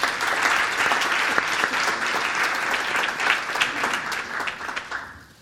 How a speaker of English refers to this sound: I'll make one exception for applause now. Please help me welcome our panelists.